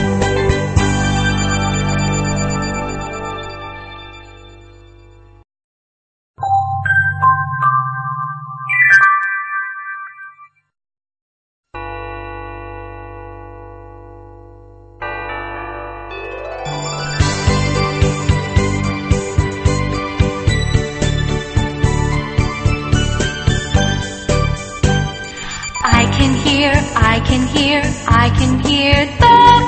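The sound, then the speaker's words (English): A ringing bell sounds in bright, sustained metallic tones, broken by short silences, then builds into a denser, rhythmic run of repeated chiming notes. No one speaks. “Ding-a-dong, ding-a-dong, ding-dong. I can hear, I can hear, I can hear the bell.”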